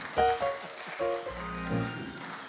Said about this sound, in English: See? The spattering of applause.